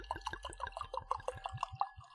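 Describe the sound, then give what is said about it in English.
Zinfandel red wine glugs out of a bottle in a quick, steady run of about a dozen gurgling pulses, fairly quiet, with no talking. “I might when you like pour it. Let's hear you pour it.”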